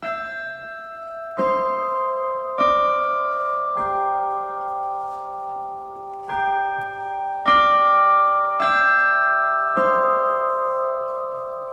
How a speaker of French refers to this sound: Pour cette question, l'Orchestre National de France va faire sonner les cloches. Écoutez.